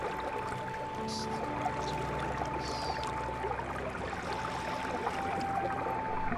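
Steady, continuous rush of a waterfall pouring down into a river, dense and even throughout, with a faint sustained tone humming underneath.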